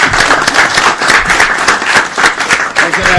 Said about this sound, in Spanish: Dense un aplauso aunque sea entre ustedes. Vamos.